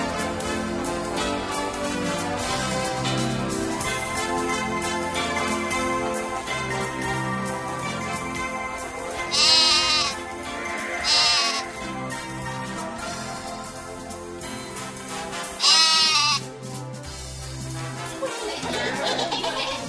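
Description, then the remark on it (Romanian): Several wavering, quavering bleats from young goats rise in short bursts over a dense, steady backdrop of music-like sound, three of them standing out loud. “Gata, gata cu behaiala.”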